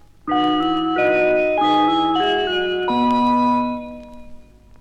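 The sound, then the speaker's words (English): Ring-modulated Synthi synthesizer chimes by a composer play a BBC Radio Solent call sign of about five sustained, metallic, bell-like chords stepping down in pitch, with no voices, the last tone ringing out and fading. “In this call sign for BBC Radio Solent, also by …, she uses the ring modulator to make unusual chime sounds.”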